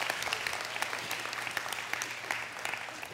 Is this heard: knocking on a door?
no